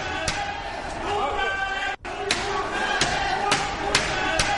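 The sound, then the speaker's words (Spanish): Spanish National Police riot officers smash a battering ram against the door of Carles Puigdemont's school again and again, heavy booming thuds landing every second or so over the loud, chaotic noise of a shouting crowd. “Los antidisturbios de la Policía Nacional con un ariete rompen la puerta.”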